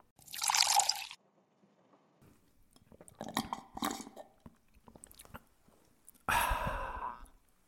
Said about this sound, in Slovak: Na úvod sa posilnite virtuálnym dúškom našej liečivej minerálnej vody.